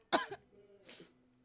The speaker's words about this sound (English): Oh, fuck. No. Coughing's good.